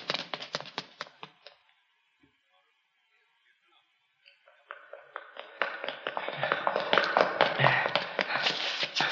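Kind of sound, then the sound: sound effect, footsteps running up stairs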